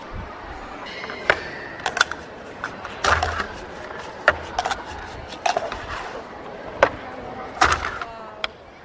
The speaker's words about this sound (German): So, jetzt kommen wir zu einem Würfelspiel. Das Würfel ist safe. Würfeln.